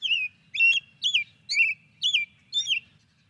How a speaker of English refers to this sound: Well, let's hear the sound of one of the birds you write about. It also happens to be Wisconsin's state bird. Here is a robin song.